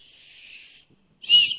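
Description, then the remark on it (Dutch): A small hand whistle is blown twice: a steady, moderate blast lasting under a second, then a short pause and a louder, sharper shrill burst. No voices. “Een fluitje, laat eens horen dan. Moet ik er nog fluiten?”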